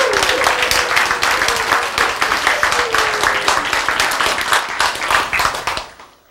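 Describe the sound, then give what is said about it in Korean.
A crowd applauds with loud, dense, vigorous clapping that continues steadily for several seconds before tapering off at the end. “제 박수로 세게 쳐서 나 기분이 제일 좋아.”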